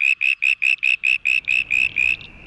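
A male frog in a noisy city gives its new, higher, squeakier call, pitched away from traffic noise: a quick, evenly spaced run of about ten high, squeaky call notes, ending in a faint trailing tone over low background rumble.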